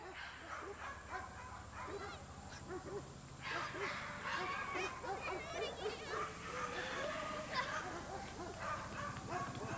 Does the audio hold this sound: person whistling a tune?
no